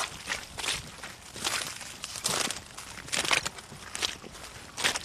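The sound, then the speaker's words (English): Footsteps crunch over icy, waterlogged bog ground in Offaly, off the wooden walkway, in a steady, uneven walking rhythm, each step a bright crackling crush of bits of ice with soft squelchy undertones as the feet sink in, no voices present. “Your feet kind of sink in, don't they? Bits of ice there.”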